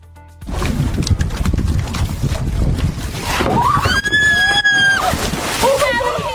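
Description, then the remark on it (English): Water sloshes and splashes steadily as a canoe team races in California and a sea lion hops on board, with gusty wind rumbling over the microphone and a loud, drawn-out call or shout rising above the churn partway through. “A canoe team in California got quite the surprise when an unexpected passenger hopped on board in the middle of a race.”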